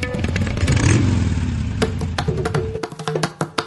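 A motorcycle engine revs up, its rumble swelling and rising in pitch before settling, followed by a few sharp clattering knocks as the engine idles down.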